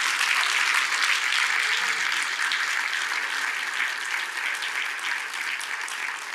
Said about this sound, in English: I don't want no one person clapping in here. All y'all need to clap.